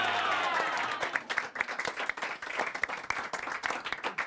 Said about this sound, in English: Give them a massive round of applause all the way from Tequila.